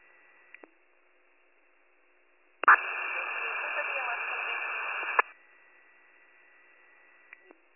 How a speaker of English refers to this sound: Your radio is all static.